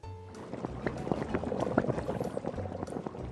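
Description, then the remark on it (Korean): A pot of anchovy broth at a rolling boil, with soup anchovies simmering in it, steady dense bubbling and irregular pops, a continuous bubbling texture with no voices. “냄비에 국물용 멸치를 넣고 끓이다가 망에 멸치를 걷어내고 국물은 잠시 보관.”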